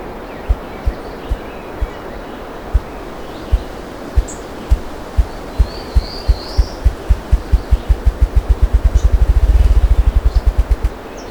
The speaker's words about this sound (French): J'ai déjà une idée de l'oiseau qui tambourine ainsi. Il s'agit d'un gallinacé proche des perdrix et coqs de bruyère, une gélinotte huppée, Bonaza umbellus. Elle est commune, voire parfois abondante dans ces belles forêts.